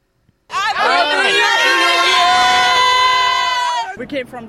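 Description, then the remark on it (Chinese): A crowd of over a million people around Sydney Harbour, Australia, cheers and shouts together at the New Year fireworks in one loud, sustained burst lasting a few seconds, many voices overlapping before it suddenly drops away into scattered noise. “超过100万人聚集在悉尼港周围观看举世闻名的烟花表演。”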